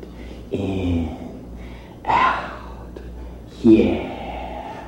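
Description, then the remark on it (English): A man breathing heavily: three loud, rough breaths spaced a second or so apart, with quieter pauses between them and no one speaking. “Yeah, he's breathing hard and calling you baby and patting you on your head.”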